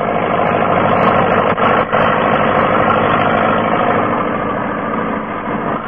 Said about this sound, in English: clearing long, straight furrows through the rich loam soil with a new tractor and disc plough